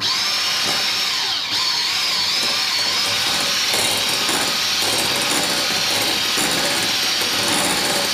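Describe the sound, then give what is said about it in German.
An electric kitchen mixer runs steadily for several seconds, a loud, continuous high-pitched motor whine with a slight wobble in tone as it blends cream, turned around as it mixes to keep it from splattering, with no talking. “Das tun wir jetzt zusammen mixen. Ja, das tun wir jetzt auch wieder. Du musst es drehen, sonst spritzt es in der Gegend rum.”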